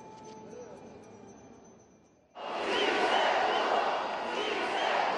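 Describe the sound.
A low murmur with faint voices gives way, about halfway through, to a sudden loud roar of a crowd shouting and cheering joyfully, sustained and dense to the end.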